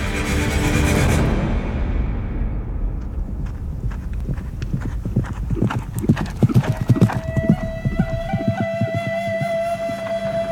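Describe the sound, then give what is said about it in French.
Three horseback riders, Charles Stanton and two guides, approach a party of emigrants with hooves clip-clopping in a steady, uneven rhythm of sharp knocks, rising out of a fading whoosh of noise and continuing at moderate loudness, with a faint tone humming underneath. “Mais quelques jours plus tard, les émigrants voient venir vers eux 3 cavaliers.”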